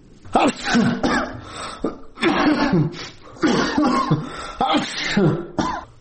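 A sick 43-year-old man with coronavirus-like symptoms sneezes in his sickbed in Faryab province, Afghanistan, a series of harsh, throaty bursts with short gasping pauses between them, fairly loud and with no talking.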